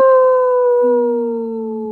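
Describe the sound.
A person mimics a wolf howl, one long sustained tone that slowly sinks in pitch, with a second, lower howling voice joining partway through. Loud, no talking.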